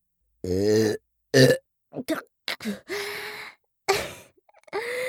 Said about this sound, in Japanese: ちょっと失礼いたしますわね。はしたなくゲップが出ちゃいましたわ。もう一回。